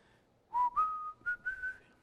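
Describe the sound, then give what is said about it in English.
A person walking around whistles a short rising tune of several clear, sustained notes, fairly loud, with no talking. “I'm walking around whistling, because apparently they hear a whistle from time to time.”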